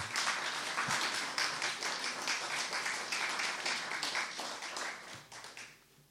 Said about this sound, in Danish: Ja, klap bare.